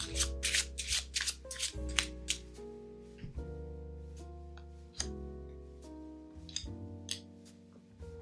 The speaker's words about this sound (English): Okay, so shuffle these cards and see what we need to affirm today.